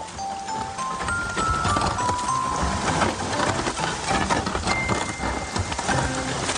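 Steady rain falls on a hot day in a dense, even hiss of patter, with scattered brighter drips standing out and a few faint tonal notes drifting in the background.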